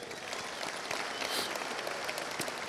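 A crowd claps steadily and enthusiastically, a dense wash of many hands with no breaks, sustained at an even loudness for a few seconds with no voices standing out.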